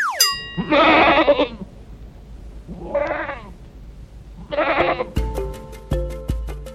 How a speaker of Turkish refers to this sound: Bildiniz mi? Bu canlının adı keçi. Yavrusuna oğlak, erkeğine teke diyoruz. Kıllarından çeşitli kumaşlar yapıyoruz.